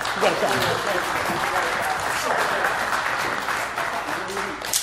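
An audience claps steadily for several seconds, a dense wash of overlapping hand claps at an even, sustained loudness that tapers slightly at the end.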